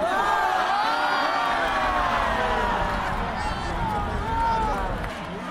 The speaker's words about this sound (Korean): 숨을 죽이고 경기를 지켜보던 관중들은 아쉬움을 뒤로하고 괜찮아를 외치며 단일팀을 응원했습니다.